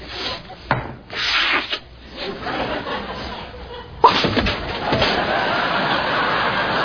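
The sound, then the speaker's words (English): A person forces out several fake sneezes, short breathy bursts spaced a few seconds apart, fairly loud, with a steady rough rustling hiss continuing underneath after the last one. “Well, what's with the fake sneezing?”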